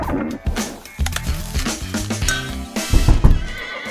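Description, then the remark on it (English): A horse kept in an apartment neighs loudly and shakily, its whinny rising and falling, while hooves clatter on a hard floor, with no one talking. “Sir, we've received 17 noise complaints. Something about a horse?”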